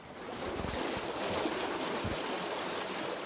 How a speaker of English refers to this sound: Here at Arizona Falls, SRP has provided water and power for more than a century.